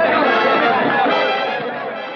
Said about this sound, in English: Also, we need to, what do you call it? I call it peas and carrots, but crowd noise. The walla walla.